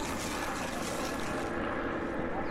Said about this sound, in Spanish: ¿Un helicóptero? Uh-huh. ¿Por qué pasan tantos helicópteros en Ciudad de México? Que hay gente rica que no le gusta el tráfico, el tránsito.